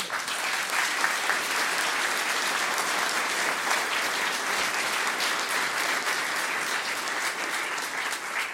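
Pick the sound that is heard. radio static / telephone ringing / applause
applause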